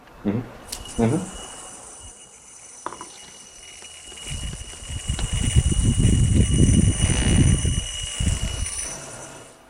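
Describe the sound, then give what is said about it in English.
A yo-yo is thrown with a few sharp clicks and knocks, then settles into a steady whirring spin that swells and rumbles for several seconds over a faint, constant high-pitched whine. “But here goes with my throw.”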